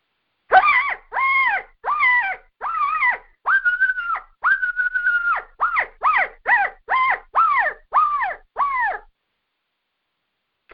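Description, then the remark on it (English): An imitated coyote squall made on a call, used to answer a barking coyote: about fourteen loud, harsh, wavering yelps in a quick run, each rising and falling in pitch, with a couple of longer drawn-out cries midway, then silence. “If you get one barking, then squall to him like this.”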